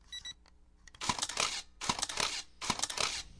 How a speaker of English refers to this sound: I have no idea what the sync speed of this thing is, but just for some effect, here's what the shutter sounds like.